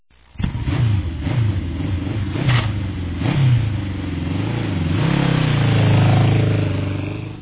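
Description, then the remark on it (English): A motorcycle engine starts up and revs several times, pitch climbing and dropping with each throttle blip before settling into a louder, sustained roar. Steady, with no voices. It is a new motorcycle, received as a Christmas present, being tried out on Christmas Day. “Oh, look what I got. A motorcycle. I think I will try it out.”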